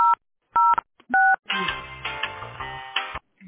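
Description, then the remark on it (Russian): Three short two-tone telephone keypad beeps, evenly spaced and clear, followed by a longer, busier stretch of dense tonal sound over a low hum, on a phone call to the company Teploenergosbyt SPB after a prompt to dial an employee's extension number. “Если вы знаете внутренний номер сотрудника, наберите его.”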